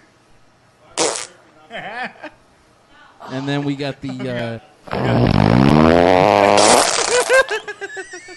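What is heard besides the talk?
fart noises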